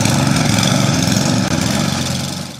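A Cub Cadet snowblower engine runs loudly and steadily, a constant buzzing roar with a rough low rumble that holds at the same level throughout, with no voices.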